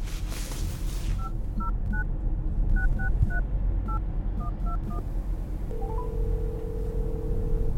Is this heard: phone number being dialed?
yes